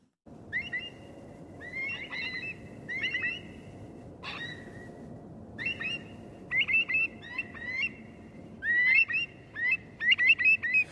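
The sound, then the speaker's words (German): Repeated bird calls, bright and chattering, come in short bursts and grow busier toward the end, set over a steady low background hum with no one speaking. “Seit jeher inspirieren sie uns, die Vögel, über Dinge nachzudenken, die sich so abspielen zwischen Himmel und Erde.”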